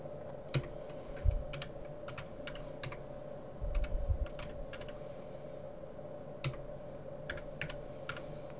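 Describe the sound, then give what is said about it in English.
Irregular clicks of typing on a computer keyboard as fit coefficients for a SANS data set are entered, fairly quiet, with a few heavier thumps, over a steady low hum with no voices. “So we have initial guesses of 0.055, and I'm typing these directly from the fits that we just used, and they need to be reasonably close.”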